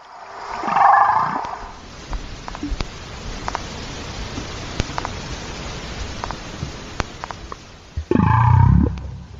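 humpback whale vocalizations

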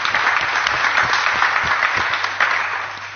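audience applause

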